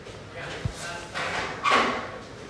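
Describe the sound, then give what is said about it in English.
A door is pushed shut: a short dull thud, then a couple of soft swishing, scraping sweeps as it swings and settles, fairly quiet overall. “I'm just going to shut the door real quick.”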